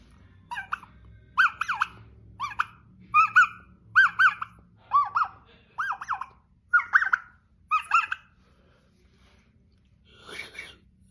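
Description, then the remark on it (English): A turkey call imitating a hen: a steady series of about nine sharp, high-pitched squeaky clucks spaced roughly a second apart, fairly loud, followed by a fainter, rougher purr-like sound, with no talking. “And so what I'm doing with this call, for all you guys that don't know, I'm adding it in with my clucking and my purring.”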